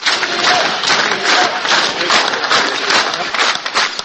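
A large crowd in Tuzla applauds and sings together as it welcomes Ilija Jurišić with the words 'Ilija, welcome', a dense, steady wash of clapping and many mingled voices that stays loud and unbroken throughout.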